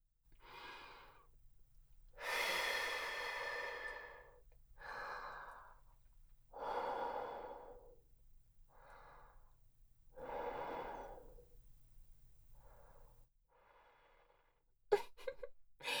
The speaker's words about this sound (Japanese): 私の吐息当たっただけでビクンビクンしちゃうの？